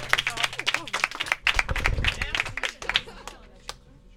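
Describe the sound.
An audience applauds with dense, irregular clapping, a few voices mixed in beneath it, before the clapping thins out and fades over the final second.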